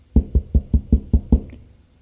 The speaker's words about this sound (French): On frappe à la porte.